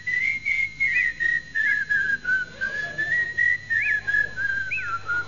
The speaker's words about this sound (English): We go in whistling that, right?